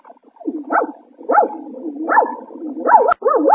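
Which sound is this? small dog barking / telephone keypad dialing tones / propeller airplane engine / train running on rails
small dog barking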